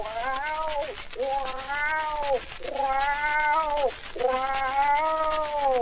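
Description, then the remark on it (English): A lynx coming down a tree yowls in four long, drawn-out wails, each rising and falling in pitch with a harsh, strained tone, separated by brief pauses. The cries are loud and sustained, with no talking. “The yowling increased in vigor now.”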